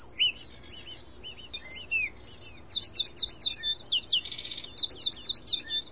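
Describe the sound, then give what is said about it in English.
An endangered Zapata wren from Cuba sings loud, clear whistled phrases: quick rising-and-falling notes repeated in rapid rhythmic bursts, with a faint insect-like hum in the background. “This bird is from Cuba. It's the endangered Zapata wren, a.k.a.”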